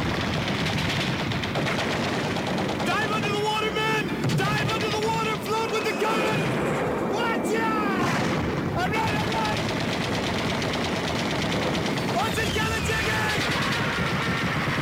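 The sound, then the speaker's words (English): A loud, continuous battle scene: rapid bursts of gunfire and machine-gun rattle mixed with heavy booming explosions, with shouting voices breaking through the din throughout. “And then it started to rain fire and lead.”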